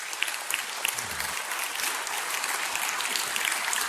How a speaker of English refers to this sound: Let's cheer for that. Come on.